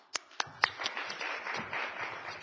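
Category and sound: crowd, round of applause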